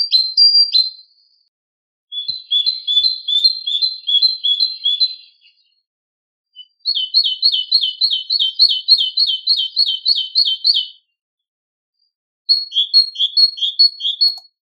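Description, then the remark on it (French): A great tit sings in clear, repeated bursts of bright two-note phrases, each run lasting a few seconds with short pauses between, loud with no other sounds. “Écoutons maintenant la mésange charbonnière, que l'on peut d'ailleurs entendre dès janvier.”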